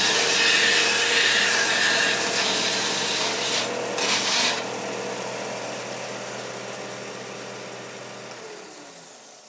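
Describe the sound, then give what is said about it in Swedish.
A belt sander runs steadily with a loud, continuous abrasive rasp over a low motor hum, briefly intensifying midway, then winding down near the end. No one speaks. “Och sen har jag en bandslipmaskin som jag använder väldigt flitigt.”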